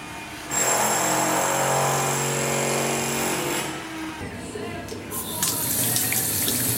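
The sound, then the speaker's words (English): A shower runs with a loud, steady rush of water, joined for the first few seconds by a whining, humming pipe tone that fades out while the spray continues. “So what do you think of this, guys? This is the water.”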